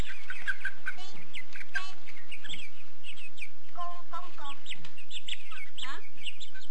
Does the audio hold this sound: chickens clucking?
yes